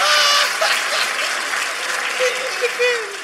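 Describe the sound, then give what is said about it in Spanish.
A live show audience claps steadily and loudly for a few seconds, a dense wash of hands, with scattered shouts and a whistle rising over it. “Un aplauso para el pajero, por favor.”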